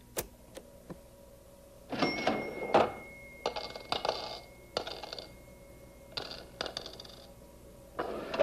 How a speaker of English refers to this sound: Can you tell what that is? I think that's the cash register. I think that's the one that they have at Negri's Music Shop.